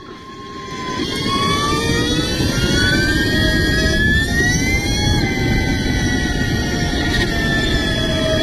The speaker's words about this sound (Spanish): Una moto eléctrica. Viste cómo suena, ¿no?